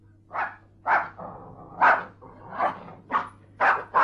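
A dog barks about seven times in a steady, unhurried series, each bark short, with a faint low hum underneath and no talking.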